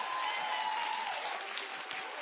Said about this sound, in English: Lift up a cheer for the Poland team.